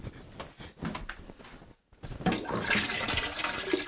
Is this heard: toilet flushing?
yes